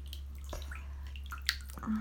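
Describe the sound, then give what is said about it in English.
Water drips into a bathtub while someone relaxes in the bath, a few scattered, quiet plinks and splashes at irregular intervals over a steady low hum, with no one speaking. “Oh, I'm relaxing in the bath right now.”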